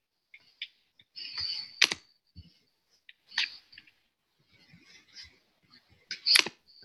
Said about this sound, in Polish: I prosiłabym nie klikać już, bo mnie wybijacie i będzie mi ciężko po prostu prowadzić.